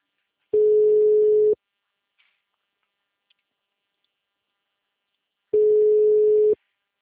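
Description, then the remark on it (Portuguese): A telephone dial tone as a call is placed: two steady, low-pitched buzzing tones, each about a second long, separated by roughly four seconds of silence. No one speaks. “Ela vai aceitar, vou ligar para ela agora.”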